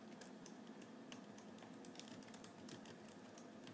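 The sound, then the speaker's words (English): Rapid, uneven clicking of computer keys being typed on at 2 o'clock in the morning, a steady stream of small sharp taps, with no voices. “I'm typing.”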